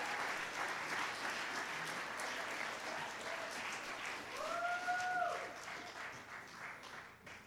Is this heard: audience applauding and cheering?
yes